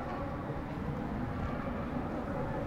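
A steady, low rumble of car traffic passing in front of a middle school in Pantin fills the whole stretch, a broad continuous roar with no distinct individual pass-bys and no voices.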